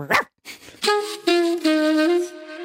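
A dog lets out one sharp bark, then after a brief pause gives several drawn-out, whining, howl-like barks, fairly loud, with no one speaking.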